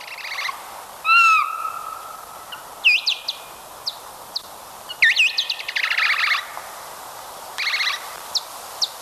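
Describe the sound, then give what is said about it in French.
Bat social calls, recorded and slowed down ten times, heard as a string of swooping, warbling chirps and buzzy trills in short bursts with pauses between, fairly loud over a soft hiss, with no talking. “Bon, on va écouter quelques cris sociaux, là.”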